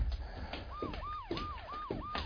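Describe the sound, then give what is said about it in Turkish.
Police car sirens wail in a rapid, repeating rise-and-fall pattern, several swooping cycles in quick succession over a low rumble of background noise, with no one speaking. “Polis arabalarının sesi bu.”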